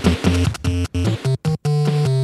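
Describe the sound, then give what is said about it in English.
Bright, chiptune-style stage one theme music from the early Nintendo arcade game Mario Bros., in stereo, with bouncy square-wave melody notes in short choppy bursts separated by brief gaps, over a steady bass line. “It's an arcade game.”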